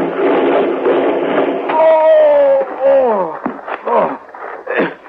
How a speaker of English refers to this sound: Hey, what in thunder? The wheel. Wheel's coming up. We're going to tip over. Hang on.